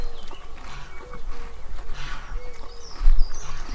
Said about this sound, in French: On a tellement d'étendues sonores qu'on peut se mêler à plein de sons aussi de la nature et des sons de... animaux, voilà les oies.